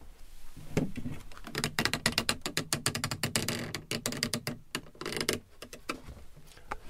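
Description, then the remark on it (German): A wooden screw clamp creaks as it is turned by a Foley artist recording sounds for the KiKA series Die Pfefferkörner, a dense, crackling run of dry ticks and groans that speeds up and slows in uneven bursts, with no voices. “Die Holzschraubzwinge, mit der man alles Mögliche machen kann.”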